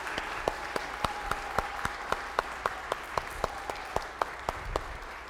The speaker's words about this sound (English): Well, well done, boys and girls. Thank you. I think a round of applause here for it.